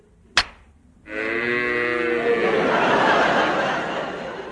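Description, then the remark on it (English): A sharp knock rings out, then after a short pause a cow lets out one long, loud, drawn-out moo that holds steady for several seconds before trailing off. “bring those cows up”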